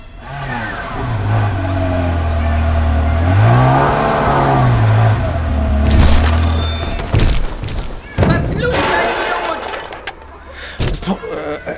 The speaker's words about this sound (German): Also gut, ich muss mich entscheiden. Wir nehmen den Ferrari-Sound.